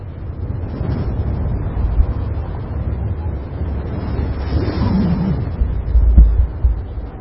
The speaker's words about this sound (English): It was a stormy night, I believe.